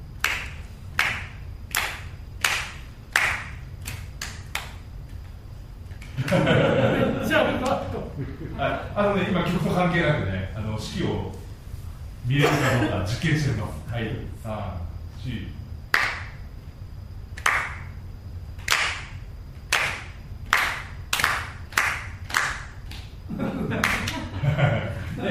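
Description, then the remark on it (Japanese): At a choir rehearsal, the singers clap in unison to a steady four-beat as the conductor beats time. The sharp, crisp claps repeat in time, pause while someone talks, then resume before voices return at the end. “はい、手拍子してください。4拍子振ります。”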